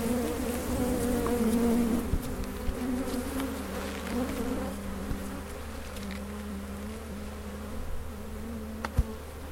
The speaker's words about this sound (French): les plantes hein, qui fleurissent, là, les différentes plantes, ce ne sont pas des abeilles qui sont présentes. Il y en a bien une là qui se balade, mais elle est à peu près la seule. Mais ce sont des bourdons. Différentes sortes de bourdons,